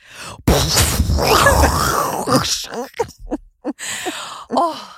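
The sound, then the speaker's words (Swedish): A voice imitates an explosion with a sudden loud, noisy burst that rumbles and hisses for about two seconds, followed by a few short breathy vocal bits and laughter-like sounds. “Kan du nu ge mig ditt bästa ljud för en explosion?”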